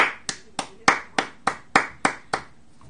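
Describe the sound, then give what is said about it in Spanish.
A single pair of hands claps about nine times in a steady, even rhythm, each clap sharp and close, with no talking and no crowd. “Y pues bueno, démosle un gran aplauso a Canos, al buen Williams.”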